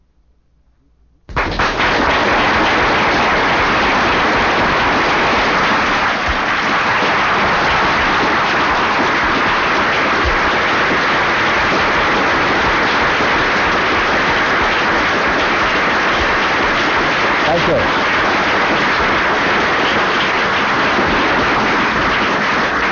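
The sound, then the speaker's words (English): A large audience at an L. Ron Hubbard lecture given on 21 September 1965 bursts into loud, dense applause that starts abruptly and keeps up steadily for over twenty seconds, a thick wash of clapping with no voices over it. “You probably won't applaud so loud when you hear the kind of lecture I'm about to give you.”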